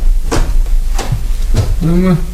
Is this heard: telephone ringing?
no